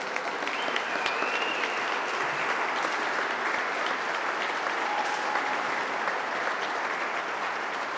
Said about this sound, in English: Once that applause died down